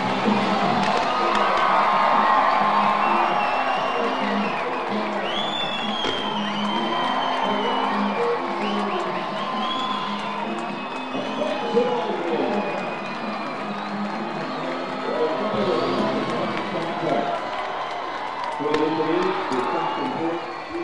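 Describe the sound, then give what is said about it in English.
A crowd of nearly 9,000 fans roars and cheers continuously after the Fresno Grizzlies' 11-inning walk-off baseball win on opening night of 2025, sealed by Felix Tena's sacrifice fly in the bottom of the 11th, with whoops, high shouts and scattered clapping keeping the sustained noise loud throughout. “These nearly 9,000 fans were promised fireworks, and they get the appetizer.”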